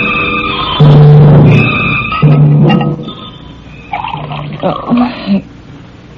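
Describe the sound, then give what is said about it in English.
A drink is poured into a glass in two short bursts with a gurgling, rising tone, followed by fainter glassy clinks and handling sounds. “I'm just pouring myself a drink.”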